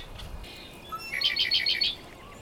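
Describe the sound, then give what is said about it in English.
A chorus frog gives a short run of about five quick, raspy pulses, like a fingernail drawn along a comb's teeth. The call is fairly clear against a quiet outdoor background, with no talking. “Their song is a trill of notes that are pretty consistent and just sound like strumming a comb. So if you watch chorus frogs long enough, you can actually see them, and you can even see that little balloon come out on their throat.”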